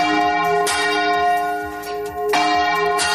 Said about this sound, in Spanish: Es el de las campanas en Utrera. En las últimas horas, varios templos religiosos de toda España han ido haciendo sonar las suyas, sus campanas, a mano.